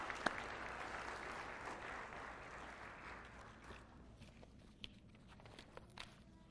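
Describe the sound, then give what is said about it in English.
A church audience applauds a student for his hard work, a dense wash of clapping that fades gradually over several seconds, leaving scattered shuffles and a few faint footsteps as people go back to their seats. “give one final applause to Jacob for all of his hard work”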